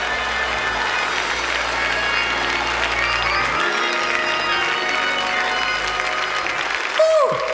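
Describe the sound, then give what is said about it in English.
A standing audience claps loudly and steadily, a dense wash of many hands with scattered voices and cheers mixed in, holding strong for several seconds before a brief swell near the end. “I just need more than a handful of folk just to stand to your feet, clap your hands, and declare, I trust God.”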